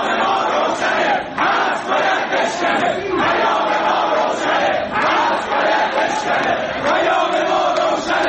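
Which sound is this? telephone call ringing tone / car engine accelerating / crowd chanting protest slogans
crowd chanting protest slogans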